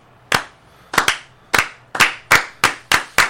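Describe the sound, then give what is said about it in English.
A slow clap recreating the one at the end of the film Lucas: about nine sharp, crisp hand claps with no voices, starting spaced out and gradually picking up pace, a couple of them slightly doubled as if from more than one pair of hands. “Remember when he comes down the hallway and they start clapping very slowly? Slow clap?”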